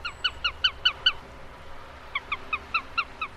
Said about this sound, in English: And that's a sparrowhawk. Two birds of prey that archaeologists believe hunter-gatherers may have tried to imitate when looking for food tens of thousands of years ago.